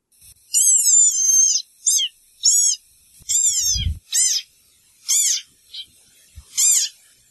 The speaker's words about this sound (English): Very cute. It is very cute. Very tiny, squeaky little animalcule. It is. It is. That's the desert rain frog.